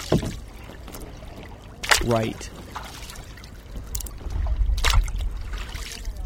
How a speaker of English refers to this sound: His kayak paddle skillfully dips in and out of the water.